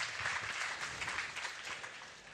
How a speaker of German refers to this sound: Vielen, vielen Dank dafür. Genau, das ist auch nochmal ein Applaus wert.